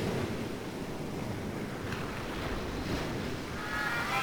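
Steady, rushing surf of ocean waves washing onto a shore, a continuous broad roar with some wind-like hiss, fairly loud, with no voices.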